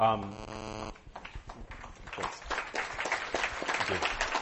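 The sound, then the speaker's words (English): A short tonal voice sound opens, then an audience breaks into steady applause, a dense wash of many hands clapping at moderate loudness that swells slightly and carries on to the end. “It's a very polite crowd.”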